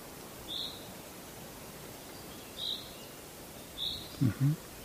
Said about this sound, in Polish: Ten głos pierwszoplanowy? Pierwszoplanowy, tu nam się zięba odzywa.